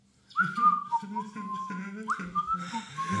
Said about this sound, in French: Puis le lendemain matin, arrive à l'usine, l'air de rien, sifflotant,